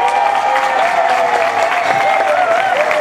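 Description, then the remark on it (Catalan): Sustained applause from an indoor audience for the announced winner of the first poetry contest of the Festa Major of Roda de Barà, steady and fairly loud throughout, with dense overlapping clapping and a faint murmur of crowd voices underneath. “Sabem si està present, per favor, que s'aixequi per rebre l'aplaudiment de tots els companys que han participat, del jurat, dels tècnics i de l'Escola de Música.”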